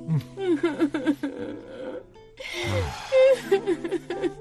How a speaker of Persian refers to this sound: اینقدر گریه نکن، اینجوری روحیه خانم جینم خراب میشه دیگه، این کار نکن.